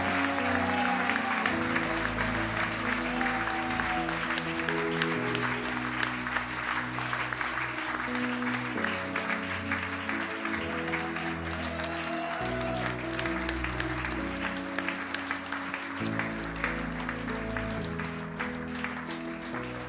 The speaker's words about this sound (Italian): Forte l'applauso, chiesa, non andate via, restate qui.